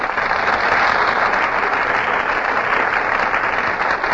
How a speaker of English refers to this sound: You just can't help applauding when Fred McMurray and Carol Lombard make their entrances on the Gulf Theater stage